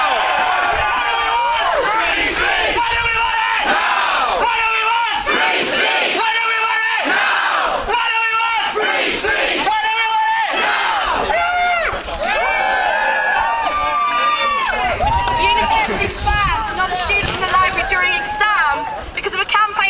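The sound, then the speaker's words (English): A large crowd at a freedom of speech rally at a university roars and cheers continuously for about twenty seconds. It is a loud, dense wall of shouting voices with rising yells and whoops throughout. “So let me hear a roar!”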